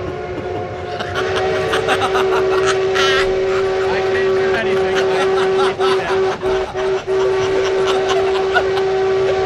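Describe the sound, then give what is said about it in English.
A locomotive horn blows one long, steady, loud blast over the heavy rumble and clatter of a passing train, with a voice speaking briefly near the start. “Yes, we heard the horn.”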